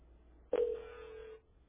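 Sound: telephone ringing tone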